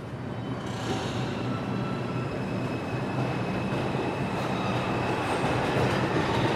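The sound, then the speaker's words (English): A subway train rides along the rails with a loud, steady rumble and a faint metallic whine running throughout, with no one speaking. “do you get the feeling that people actually read the poems on the subway?”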